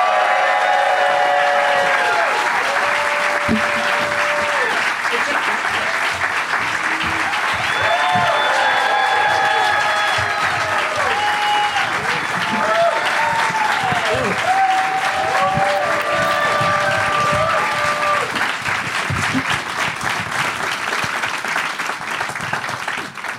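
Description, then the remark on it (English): Sustained applause from a large audience welcoming Kumail Nanjiani, Michael Hitchcock, Ricky Lindholm and Zach Galifianakis as they are brought out fills the whole stretch, a dense steady clatter of clapping with whoops and cheers rising over it, then slowly thinning toward the end. “Give it up, everybody, for Kumail Nanjiani, Michael Hitchcock, Ricky Lindholm, and Zach Galifianakis.”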